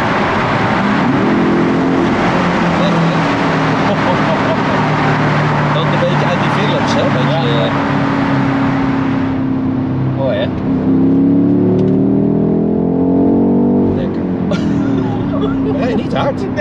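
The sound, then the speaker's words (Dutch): A car engine roars loud, its pitch climbing steadily as the car accelerates hard, then easing and surging again through a turn, a continuous revving drone throughout. “Oh, wat kan die rijden, hè? Nou ja, weet je, het is maar één keer dat je heel eventjes hard de hoek omgaat.”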